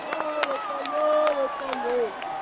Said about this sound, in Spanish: Es tremendo el grito de soy español, español.